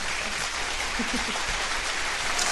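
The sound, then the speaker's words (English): Steady, dense applause from an audience welcoming a guest stage actress fills the whole stretch at moderate loudness, a continuous wash of clapping with a few faint voices mixed in. “Raucous applause.”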